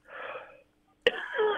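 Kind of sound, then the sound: human body sound, man coughing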